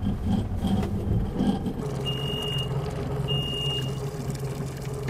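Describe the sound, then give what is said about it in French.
A boat's outboard engine runs steadily with a low, constant droning hum while fishing nets are being hauled, and two short high electronic beeps sound partway through. “On va éteindre le moteur. Voilà, on va le remonter pour pas que ça se prenne dedans.”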